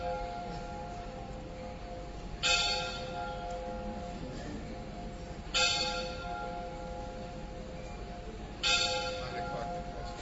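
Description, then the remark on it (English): A bell rings out in three evenly spaced strikes about three seconds apart, each clang leaving a steady, humming tone that lingers between hits, moderately loud with no talking. “Let's wait for the bell to stop.”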